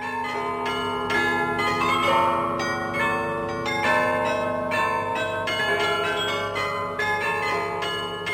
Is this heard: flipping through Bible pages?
no